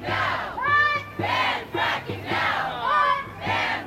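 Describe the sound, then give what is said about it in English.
A crowd of about 100 people at the Los Angeles launch of Californians Against Fracking shouts in unison, its voices rising and falling in a steady chant of roughly six loud bursts with brief gaps between them. “This was the launch of Californians Against Fracking in L.A. this week. There were maybe 100 people there”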